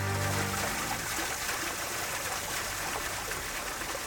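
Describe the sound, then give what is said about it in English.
Water swirls and rushes steadily into a funnel formed on a pond for several seconds, a dense churning wash that stays constant throughout, with a low hum briefly beneath it at the start. “Meanwhile, Kyle manages to levitate a few rocks, and Claire concentrates enough to form a water funnel on the pond.”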